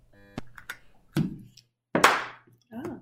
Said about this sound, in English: Okay, I don't know why we're clapping though, because we're not recording video for this.